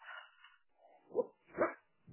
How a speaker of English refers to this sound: Oh, hello, doggy. Someone gone to your house again. She's hearing kids going inside somewhere. Yeah, it's that protective thing, isn't it? Yeah, no, she's just a yap. Typical Maltese and puppeteese.